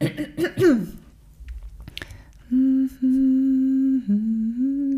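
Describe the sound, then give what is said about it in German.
A rough throat clearing at the start, then a short quiet pause, followed by someone humming a few steady, sustained notes of a song for a guessing game. “Räusper, warte.”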